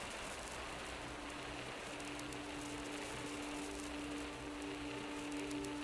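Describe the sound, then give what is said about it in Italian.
A steady, dense rush of pouring water and wind beats against window glass without pause, a soft unbroken hiss with a faint low hum underneath and no voices. “Si sente solo il rumore impetuoso dell'acqua e del vento contro i vetri.”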